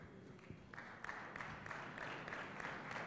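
Soft, polite golf clap: a small group claps steadily and quietly for about three seconds, a gentle patter of overlapping claps with no voices.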